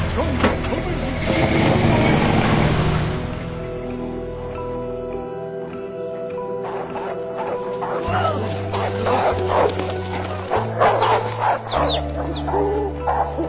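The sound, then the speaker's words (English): Dogs bark in short, scattered bursts over a steady low rumble, with a noisy stretch at the start and sharper yips and whines toward the end. “The dogs will take care of all of your problems by the morning.”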